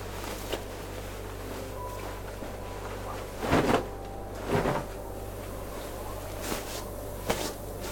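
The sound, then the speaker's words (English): A door swings shut with two solid thumps close together, followed by a couple of lighter clicks and knocks, all over a steady low background hum with no voices. “You'll want to close that door quickly.”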